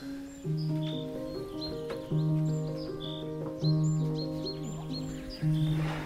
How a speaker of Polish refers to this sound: A ptaki. To mam tutaj za oknem. Tutaj zrobiłem ze starej kopalni takie kąpielisko i poidło. No i tam im sypię peski słonecznikowe wyłuskane. I tutaj przylatują zimą. To jest mnóstwo ptaków.